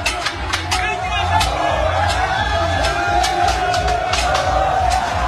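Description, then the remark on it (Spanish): Hundreds of people in the Congo roar and cheer as they run through the street celebrating a 1-0 win over Jamaica that qualified their team for the World Cup, voices blending into a steady babble, with sharp clanging or banging hits cutting through at irregular intervals. “Esos vítores, gritos de algarabía, de felicidad, eran cientos de personas en el Congo que salieron a correr, van corriendo por la calle.”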